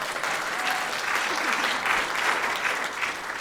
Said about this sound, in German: Danke schön. Ja, Applaus.